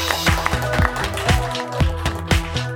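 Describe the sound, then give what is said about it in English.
An audience applauds in a dense, steady patter of clapping, with heavier claps standing out at a loose, regular beat and a faint tonal hum underneath. “I think almost without exception, well, in part of it, give yourselves a big applause, along with mine.”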